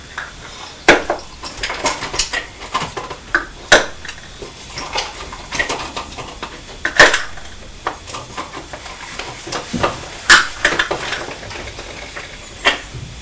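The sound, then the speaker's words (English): Small hard coloured pieces clatter and clink into pots as they are put back, in quick, irregular bursts, with sharp tapping transients scattered throughout and no one speaking. “Putting them back.”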